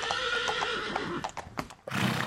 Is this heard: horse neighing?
yes